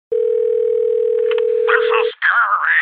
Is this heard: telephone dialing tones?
yes